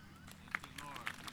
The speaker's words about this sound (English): That's a courtesy clap right there. Come on, amen. Really. That's a courtesy clap right there.